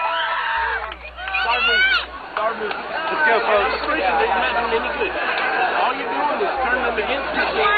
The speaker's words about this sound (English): That's the crowd on the boardwalk screaming. They're excited because the cops have shown up.